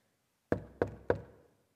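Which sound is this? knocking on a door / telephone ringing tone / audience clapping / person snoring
knocking on a door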